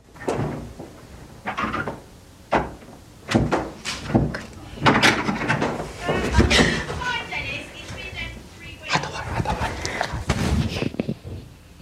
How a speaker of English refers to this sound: Rich tries the blue door, but it's locked.